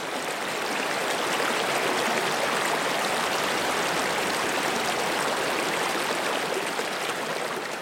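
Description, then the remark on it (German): River water flows under a bridge, rushing steadily past in a dense, continuous hiss and burble that stays even throughout, with no voices or other sounds. “Sie stehen dann zum Beispiel unter einer Brücke am Fluss und verharren regungslos, während sie auf das Auftauchen der Fische warten.”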